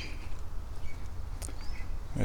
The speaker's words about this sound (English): bird chirping weird up there. What are you doing, weird bird? Who's up there?